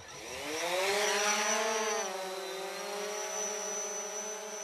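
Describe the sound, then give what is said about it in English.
A drone, flown at night by Nampa police officer Jacob Pepper toward a crow roost to scare off the crows: its buzzing motor whine climbs in pitch over the first couple of seconds, then settles into a steady, loud hovering drone with layered harmonic tones and no voices. “Nampa police officer Jacob Pepper slowly hovers the drone toward a roost.”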